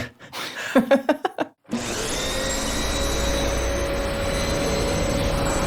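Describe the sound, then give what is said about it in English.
A vacuum cleaner switches on after a few brief knocking sounds and keeps running loud and steady, a continuous roar with a high whine layered on top. “It seems like our sound designer seems to think we're riding our vacuum cleaners there.”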